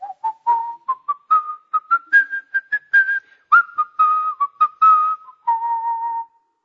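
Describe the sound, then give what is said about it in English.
A person whistles a hymn melody, clear, the pitch rising and falling through a steady sequence of sustained and short notes with brief breaths between phrases, no talking. “It's pretty good whistling, isn't it?”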